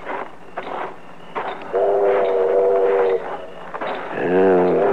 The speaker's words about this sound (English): The train's pulling in.